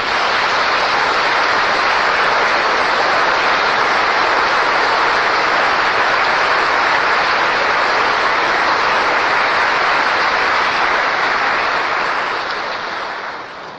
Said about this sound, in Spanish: Voy a pedir en favor si los papás y abuelos o bisabuelos también que están presentes aquí pueden ponerse de pie. Vamos a darles un gran aplauso.